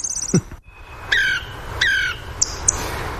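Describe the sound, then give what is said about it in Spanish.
A song thrush sings alone in a forest, delivering a few short, clear phrases of whistled and trilled notes separated by brief pauses, over a quiet background with faint low hiss. “Y por detrás casi nada, ¿no? El zorzal cantando solo.”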